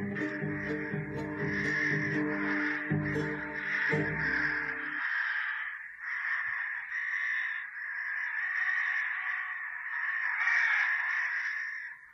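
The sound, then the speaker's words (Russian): A large flock of ravens caws loudly and without pause for the whole stretch, harsh overlapping calls forming a dense, raucous din, with deeper croaking mixed in during the first few seconds. “Уйми, ворон, мужик, тотчас уйми!”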